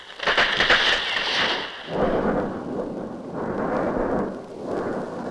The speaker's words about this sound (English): Father in heaven is angry today. Ah, yes. All around us, lightning and thunder. Will it ever end? Mon Dieu. Listen to that.